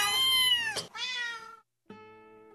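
A cat meows loudly, two drawn-out, whining meows back to back, then a short pause before a third, higher-pitched meow begins.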